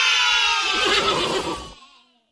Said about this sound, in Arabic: صوت أي حيوان هذا؟ هيا قولوا افتح. افتح. قولوا افتح. أحسنتم. ما هذا؟ إنه حصان. صوت الحصان. صوت الحصان. أحسنتم.